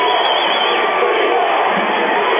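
A basketball crowd cheers after a made shot cuts the lead down to four, in a loud, steady roar of many voices that holds at a constant level without pause for a couple of seconds, with no single voice standing out.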